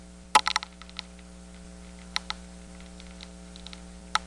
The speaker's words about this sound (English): Now, this is a northern corn rootworm, I assume, munching away at the corn's roots. I'll go by the name here. It is. It's a Diabrotica species.